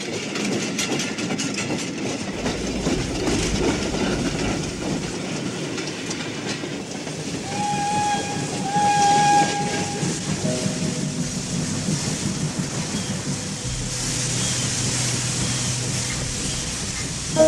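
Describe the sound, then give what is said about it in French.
A steam train rumbles and clatters steadily, its whistle sounding a sustained, steady tone partway through over the continuous chugging and rattling of the wagons. “Le train, maintenant, s'est arrêté.”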